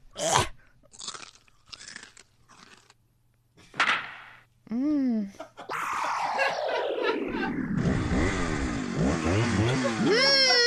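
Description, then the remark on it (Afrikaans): A fart sound effect that swells into a loud, sputtering engine-revving roar lasting several seconds, with rising and falling pitch, after a few short crunchy bursts. “Gaat ek gauw wind laat?”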